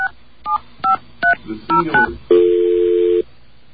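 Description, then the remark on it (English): A string of about seven touch-tone keypad beeps in a quick, uneven rhythm as a phone number is dialed, then a loud, steady phone tone holds for roughly a second. No one speaks. “All right, let's get a dial tone here, and we're going to call that number.”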